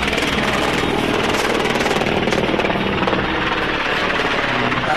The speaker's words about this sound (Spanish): Tranquilo, que acá oímos el helicóptero más que usted, pero todo en orden.